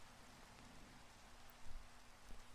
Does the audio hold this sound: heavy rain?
yes